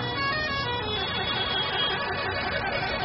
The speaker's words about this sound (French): Objectif, saluer les champions d'Afrique à leur manière. Parade de centaines de mototaxis. Concert de klaxons.